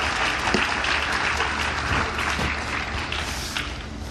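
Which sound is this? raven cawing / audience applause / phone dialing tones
audience applause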